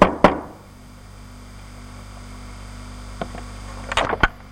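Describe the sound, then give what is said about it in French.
Knocks on the oak-and-iron door of a small cottage: a single sharp rap, a pause, then a few quick irregular knocks near the end, set against a steady low electrical hum. “Mais il ramena sa femme à la ville et vint seul frapper à la porte de la maisonnette.”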